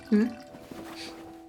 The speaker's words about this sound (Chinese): 没关系，你可以慢慢思考，我去给你倒水。